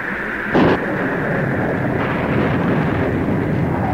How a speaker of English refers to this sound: Entreat your God to stop the mighty thundering and hail, and I will let you go, even into the wilderness, to worship and sacrifice unto your God.